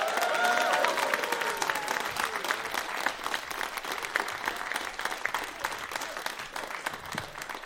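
crowd, audience applause and cheering

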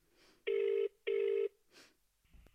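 signal or alarm, telephone ringing

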